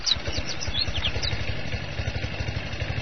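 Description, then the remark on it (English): A small pull-start lawnmower engine, started by yanking its cord on a summer day, sputters to life and settles into a rapid, steady low chugging with a clattery rattle, with no voices over it. “But I'm having a little trouble trying to figure out how this lawnmower works.”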